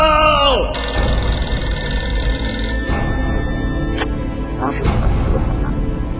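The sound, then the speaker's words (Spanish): A telephone bell rings loudly and steadily, its bright metallic tone sustained for several seconds over a dense, rumbling background with occasional sharp bursts. “¡Chale, está sonando el teléfono!”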